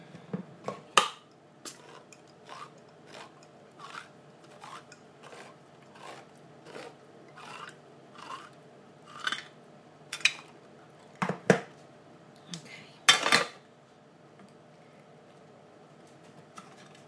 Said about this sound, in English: I want to go and open the tin with a pair of scissors. That's not good.